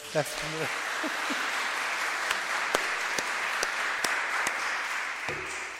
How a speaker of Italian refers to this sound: Oggi egli ci presenta il tema Maria Madre di Misericordia nelle liturgie orientali, ma gli vogliamo dare un benvenuto di grazie con un applauso.